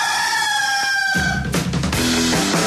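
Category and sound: bird, rooster crowing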